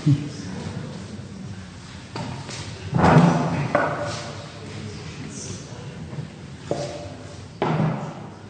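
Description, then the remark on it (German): A chair is fetched, shifted and set down, producing several dull thuds and knocks scattered irregularly over a few seconds, with one heavier bump in the middle and faint room noise between. “Ich suche gerade mal einen Stuhl.”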